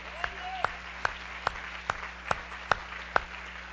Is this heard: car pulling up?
no